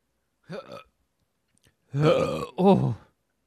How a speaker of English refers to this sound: That was dangerous. That was almost a burp version of a shart.